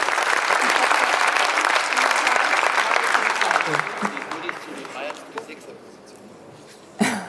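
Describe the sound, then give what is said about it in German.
An audience claps loudly for a young man who took part, a dense wash of many hands that holds steady for several seconds, then thins and fades out, followed by a brief sharp burst at the end. “Also dieser junge Mann hat mitgemacht und der kriegt einen großen Applaus dafür.”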